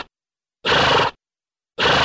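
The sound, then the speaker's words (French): Loud, breathy bursts of air from a horse, each snort lasting about half a second with broad noisy hiss, separated by short silences and repeating in a steady rhythm. “Ce son, vous l'avez entendu quand vous vous tenez à proximité de chevaux. C'est le reniflement et il permet aux équidés de s'exprimer, comme l'ont identifié les chercheurs qui s'y sont intéressés.”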